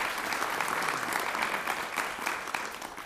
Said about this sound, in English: So with that, let's give one more big round of applause for our Oneida Nation Energy team.